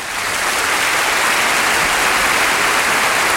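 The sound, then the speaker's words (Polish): A steady burst of applause, many hands clapping in a dense, hissing wash that stays loud and even throughout, with no voices over it. “Tu oklaski.”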